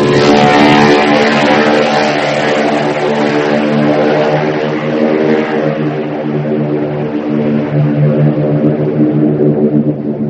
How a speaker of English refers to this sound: climbed into a single-engine C-64 Norseman that would fly him across the English Channel to Paris.